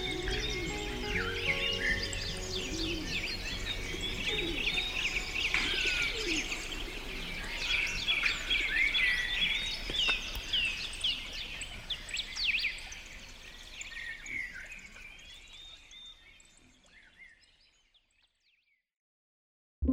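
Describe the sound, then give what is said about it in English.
A lively chorus of birds chirps and trills continuously, with soft cooing of doves mixed in, before the whole dawn-like chorus gradually fades away to silence. “This episode of Big Picture Science is called For the Birds, and we want to thank them for lacing the world with beauty and filling the skies with song.”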